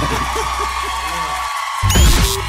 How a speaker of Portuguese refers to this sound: Gente, mais aplausos!